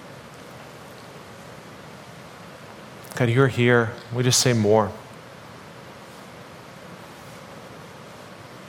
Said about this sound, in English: God, even as we hear the rain on the roof, God, we just even ask for just the rain of your presence to just shower down on us, even right now.